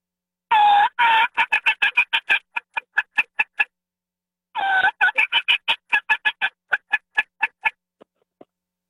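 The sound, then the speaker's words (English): A turkey call plays two runs of growling, raspy notes that break into quick, sharp soft cutting clucks, used to entice a gobbler, slowing and softening toward the end of each run. No one speaks. “So from the growl to the cutting and talking turkey, what's that saying to the gobbler?”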